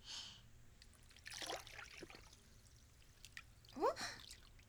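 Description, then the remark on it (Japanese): Quiet trickling water with soft splashy bursts and a couple of bright, rising drip-like plinks near the end, over a low steady background hum, in Japan in summer. “水の音、夏の声、ザ・日本だね。”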